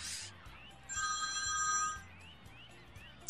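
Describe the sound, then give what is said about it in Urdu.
A mobile phone rings with a bright electronic tone, a sustained warbling chirp lasting about a second amid faint background noise and low hum, with short quieter chirps around it. “اچھا موبائل میرا بجا.”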